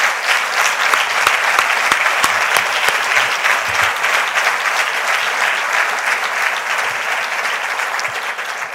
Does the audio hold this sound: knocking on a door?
no